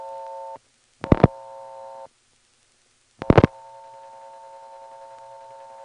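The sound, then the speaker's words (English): A steady telephone line tone on a callback circuit is cut by two short bursts of dialing clicks as the code 39 is dialed, then a steady line tone resumes. Clear, with no voices. “Okay, so we've gotten into a second callback circuit through the first one. It doesn't sound like the pulsating noise here is going to stop.”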